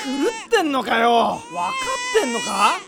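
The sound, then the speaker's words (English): A baby screams and cries in loud, high-pitched wails, several strained bursts rising and falling with brief catches of breath between them. “Then how do you like to put a wet diaper on a screaming baby?”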